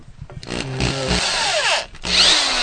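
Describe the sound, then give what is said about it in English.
An electric power drill, plugged in by a man holding a picture against a wall while hanging art in the foyer of his house, whirs loudly, its motor pitch sweeping down as it slows, then revving back up with a steady high whine after a brief pause. “While he holds a picture in place against the wall, he plugs in an electric drill.”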